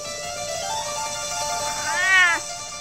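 cat meowing

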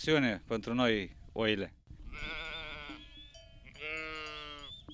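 sheep bleating

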